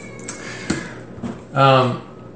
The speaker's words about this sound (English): Guys, my cat's not going to stop meowing if I don't let her in. Hang on a second.